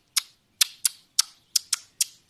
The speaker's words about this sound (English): This is not a typical sound like singing. Yeah, it's a warning call. That one that could be from a robin, for example. You know this little bird? It's this little bird with the tiny legs and the orange chest and the really beautiful black, bright eye